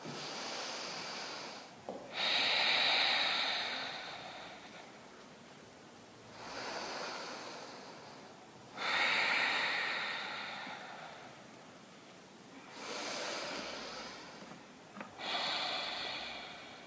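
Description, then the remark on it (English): Forceful breaths rush in and out through the nose in a steady, repeating rhythm during an exercise class, each hissing inhale and exhale lasting a couple of seconds, fairly loud, with no talking. “Using that nostril breath to send your focus right here.”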